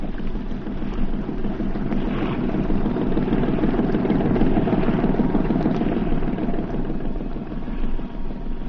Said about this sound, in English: Tugboats. Three of them. They're headed right for us.